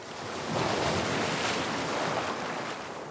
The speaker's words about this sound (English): do you think Jingle just played the sound of ocean waves, kiddos?